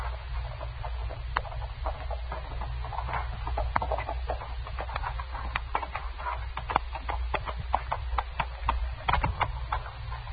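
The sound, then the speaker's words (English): Horse hooves clop in an uneven, steady stream of sharp knocks over a low background rumble, holding at a moderate level throughout with no voices. “Let's tie my horse.”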